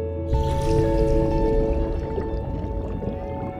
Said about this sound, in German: Diese Geräusche. Was blubbert denn da? Ein Wassertropfen. Ich bin in einem riesigen Wassertropfen. Und falle. Und falle. Ins Meer.